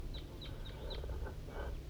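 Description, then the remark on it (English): A crossbill flying over high in the sky at 8:21 gives a series of short, sharp, high chirping flight calls, about four in quick succession and then a few more, faint over a steady low rumble. “I got 5-3 up on the hilltop and there's a crossbill, a little guy, way up in the sky. Flying over.”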